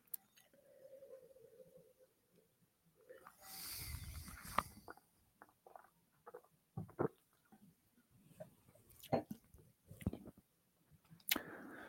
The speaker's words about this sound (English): Let me do a couple sips. Never judge on the first sip, always on the second.